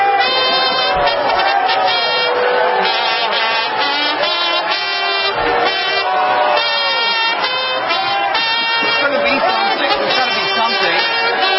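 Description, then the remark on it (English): A loud, sustained roar from a large audience reacting to a performer in an Angry Bird costume riding a tricycle around the stage playing trumpets, full of overlapping shouting and cheering, like fans at a football game, with blaring horn-like tones mixed in throughout. “Sounds like a football game.”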